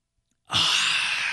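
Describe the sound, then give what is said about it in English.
A single long, airy slurp of someone sipping a drink, starting abruptly after a brief silence and holding as a steady breathy hiss for about a second, with no talking. “Hold on, I'm sipping.”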